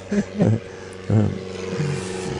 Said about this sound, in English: I don't know if how loud the airplane sounds to the audience, but to us it's very loud.